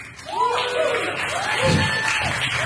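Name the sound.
audience clapping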